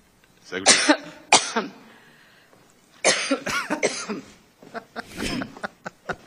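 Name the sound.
coughing fit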